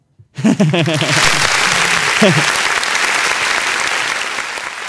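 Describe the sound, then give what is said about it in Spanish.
An audience breaks into loud, sustained applause that continues steadily to the end, with a brief voice or shout rising over the clapping near the start. “Nada, me gustaría acabar con algo más, algo que merezca estos aplausos.”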